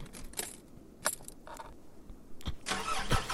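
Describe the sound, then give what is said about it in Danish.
A car engine starts up after the key is turned: a few short mechanical clicks and whirs, then the starter cranks and the motor catches into a loud, steady rumbling roar for the final second. “Ja, drej på nøglen.”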